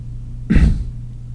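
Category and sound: human body sound, someone coughing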